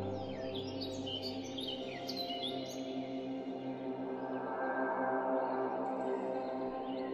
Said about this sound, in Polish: Być może słyszysz poranne ptaki, a może widzisz motyle.